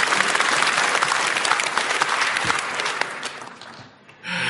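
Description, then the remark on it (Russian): Loud, dense audience applause with rapid overlapping claps, sustained for several seconds before thinning and fading near the end, followed by a brief different sound. “под ваши бурные аплодисменты где-то в паспортном столе.”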